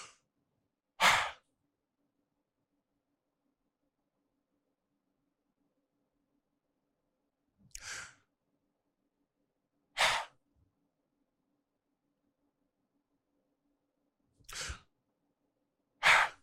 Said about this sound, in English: When you're breathing, do you just do this?